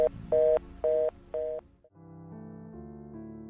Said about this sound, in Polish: masz ten numer telefonu i teraz dzwoni na niej.